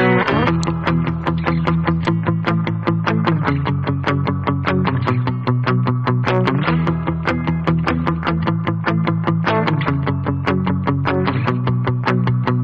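An upbeat indie pop song intro plays loud on radio station 93.3 CFMU, with a steady driving beat and bright chords changing every couple of seconds, instrumental with no singing yet.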